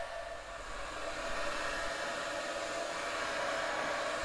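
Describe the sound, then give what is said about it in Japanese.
A hair dryer blows steadily on a seated person's hair after a shampoo, a continuous airy whoosh with a faint motor hum that holds an even level throughout, with no voices. “ドライヤー当てますね。”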